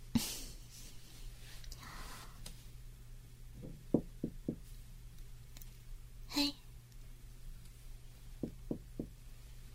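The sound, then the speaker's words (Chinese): Two quick bursts of three knocks on a hotel room door, moderately loud, separated by a pause, over a steady low hum with a brief spoken exclamation; the person knocking is livestreaming. “Hello， 大家好，我现在已经到了酒店门口了。我现在要敲门。”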